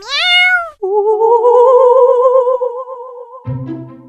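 A neutered cat meows loudly: a quick high meow, then a long, drawn-out wavering yowl, ending in a lower, rougher cry. No one speaks.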